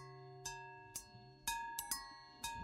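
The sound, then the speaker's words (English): Bright metallic bells and gongs are struck about six times at an uneven pace, each hit ringing out in layered sustained tones that overlap and linger. The strikes are soft and there is no talking. “Sound of the music, gongs, bells.”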